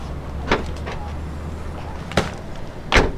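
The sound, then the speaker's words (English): Luggage is loaded into a car boot: three dull thumps and knocks at uneven intervals over a steady low rumble, with no talking. “Well, I'll put all of this in the car then, shall I?”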